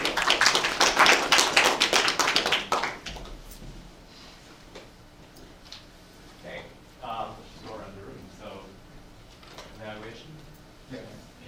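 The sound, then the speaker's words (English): A burst of audience applause, dense clapping for about three seconds, then it fades out and people begin talking quietly over a low murmur. “Round of applause.”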